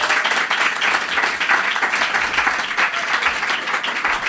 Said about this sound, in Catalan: Un aplaudiment perquè s'ha esforçat molt.